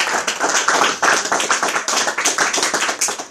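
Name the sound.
audience applause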